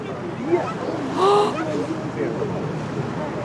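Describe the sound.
Distant heavy splashes from a giant fish leaping and belly-flopping break the surface of open water, one fuller burst standing out midway, set against steady wind and lapping waves with faint voices.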